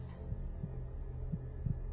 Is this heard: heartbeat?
yes